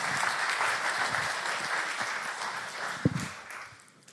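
Audience applause fills the moment, a dense steady wash of many hands clapping at even loudness, with one sharper louder clap standing out before it begins to thin toward the end.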